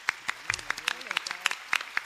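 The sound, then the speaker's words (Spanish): An audience applauds a presentation with a steady patter of overlapping claps, fairly loud and sustained, while a few voices murmur underneath. “Bueno, le damos un fuerte aplauso a la ponencia.”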